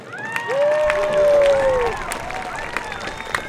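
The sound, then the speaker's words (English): Students at a school burst into sustained applause for their faculty, dense clapping mixed with cheering and high-pitched whoops and shouts rising over the crowd noise throughout. “Students, please give a huge round of applause to our faculty.”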